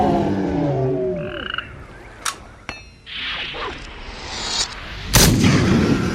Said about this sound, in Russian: Грохот был таким сильным, что в первый миг Тим подумал, что пистоль взорвался у него в руке.